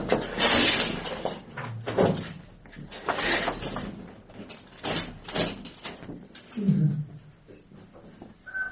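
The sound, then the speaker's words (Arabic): A chair is dragged across a hard floor in several short, rough scraping bursts, fairly loud, with faint background noise between the pulls. “هلا بدك اقعد هون حد السيد ومن شد هذا شوي هيك ما طلع الكرسي خلي كرسي السيد.”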